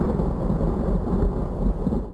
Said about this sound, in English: For those of you, man, I hope I'm not screwing this up with those thunderclap effects.